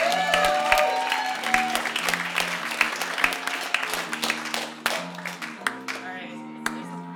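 An audience applauds for several seconds, many hands clapping in a dense, steady patter with sharp individual claps popping out, slowly tapering near the end while a low murmur of voices runs underneath.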